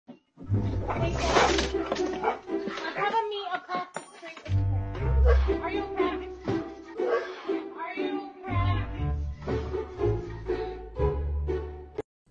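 A dog barks and whimpers in a string of strained, whiny yelps and growly bursts, loud, continuing almost without pause.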